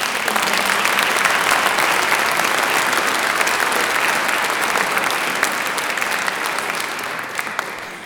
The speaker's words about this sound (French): Nous allons applaudir maintenant, nous remercions également l'équipe technique qui œuvre dans l'ombre et la bonne humeur pour mettre en place les estrades et tout le matériel.